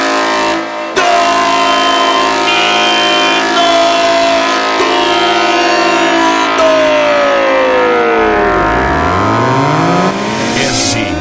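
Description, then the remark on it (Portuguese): A loud, harsh horn blares continuously for about eleven seconds, its buzzing tone holding steady before sliding downward in pitch near the end. No one speaks. “LTS, a corneta do racha.”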